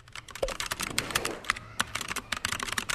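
A student at a school types rapidly and continuously on a computer keyboard, a dense stream of crisp key clicks with no one speaking.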